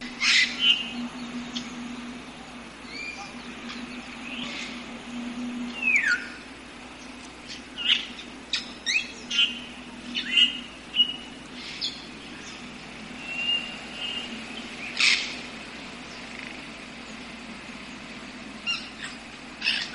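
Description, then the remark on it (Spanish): An African grey parrot gives scattered sharp whistles and squawks at irregular intervals over a low steady background hum, with no one speaking. “Espero que os hayáis divertido con nosotros y hayáis aprendido algo más acerca de esta maravillosa ave. Se llama el loro yaco.”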